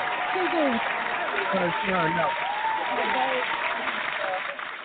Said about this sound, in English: Let me give her a round of applause.